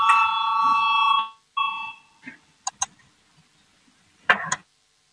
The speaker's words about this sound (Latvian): Lūdzu zvanu, balsosim par 208. Deputāta Valainis priekšlikumu. Lūdzu balsosim.